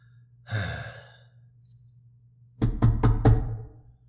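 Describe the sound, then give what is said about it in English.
A breathy sigh, then after a pause four quick, sharp knocks on a door in a fast run, fairly loud, with no talking. “Who's at the door?”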